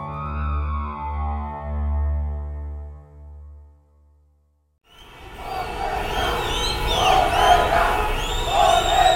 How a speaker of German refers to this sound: Kairo am Abend des denkwürdigen 11. Februar 2011. Nach dem Rücktritt von Präsident Hosni Mubarak ziehen jubelnde Demonstranten noch stundenlang durch die Straßen unweit des Tahrirplatzes.